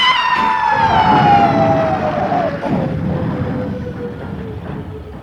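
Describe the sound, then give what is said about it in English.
A loud ambulance siren wails, its pitch sliding steadily downward as it passes, over a rumbling wash of traffic noise. “Bill, look out for the ambulance!”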